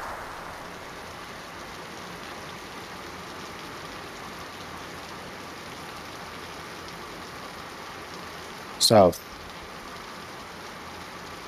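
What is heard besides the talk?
rain falling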